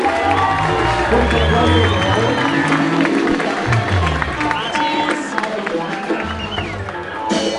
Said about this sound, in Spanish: Ahora vamos a dar inicio con la premiación, pero antes quiero que le demos un fuerte aplauso a todos los estudiantes que participaron en grandes sus proyectos.